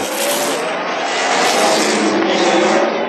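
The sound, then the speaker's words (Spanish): A motorcycle races past at speed through a secluded sector of Cairo by the docks of the Nile delta, its engine a loud, continuous roar that swells slightly and stays strong for about three seconds, with no voices. “La motocicleta cruzó por aquella parte. Pasó como una saeta.”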